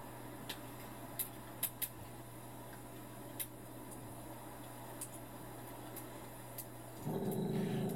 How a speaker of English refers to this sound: Ooh, as your eyes adjust, a recognizable shape emerges from the shadows at the edge of the fire's light. Is that a wolf?